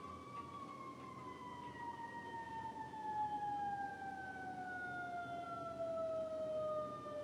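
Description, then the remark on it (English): A fire truck siren wails steadily over rumbling street traffic as the truck drives the wrong way down a one-way street and then turns, its tone sliding slowly downward as it passes by, with no talking. “Ambulance is going the wrong way down this one-way street. I'm sorry, it's a fire truck.”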